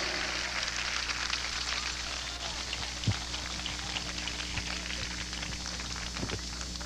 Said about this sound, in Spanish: Vamos a darle un fuerte aplauso a Jesucristo por esto. ¡Aleluya!